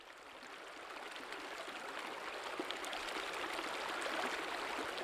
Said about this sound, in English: This is the Jarbidge River Gorge, formed back in glacial times. Its steep, rooster-comb ridges and glowing granite spires tower over a cold, clear river that snakes through stands of black cottonwoods, mountain mahogany, and tall conical fir trees.